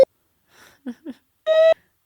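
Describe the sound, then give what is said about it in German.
A voice imitates an air-raid siren in choppy fragments: a few short muffled bursts, then a brief, loud, steady droning tone that cuts off abruptly. “Und ich höre irgendwann so übelstes komische Geräusch, wie wenn es so Fliegeralarm oder sowas ist.”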